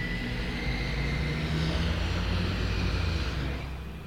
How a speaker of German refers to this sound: Wenn ich jetzt, warte, ich mach mal kurz Fenster auf. Ich weiß nicht, ob man es jetzt so hört. Es sind nämlich gerade keine Autos. Doch.